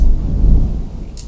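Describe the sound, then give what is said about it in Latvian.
A deep, rolling rumble of thunder on the bank of the Gauja river, far from civilization, fills the low end, loud and sustained, then slowly easing off, with a brief faint higher click near the end. “Un tā mēs ierakstījām, nu, tur bija tāda epizode, ka mēs vienu dziesmu sākam dziedāt, kur ir pieminēts pērkons. Nu, mēs tā gatavojamies un ir tiešām viņš dabā, mēs sākam dziesmu.”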